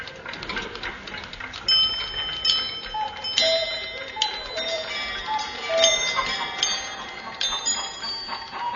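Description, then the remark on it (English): Many clocks tick at once in an overlapping clatter while bright bell chimes ring out repeatedly over the top in a clock repairer's shop, with no voices. “I have surrounded the Crumb Omnibus factory with two plainclothes detectives who are secreted in the ground floor attic of a nearby clock repairer's.”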